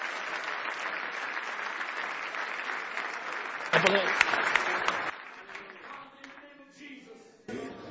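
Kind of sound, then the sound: crowd, audience clapping hands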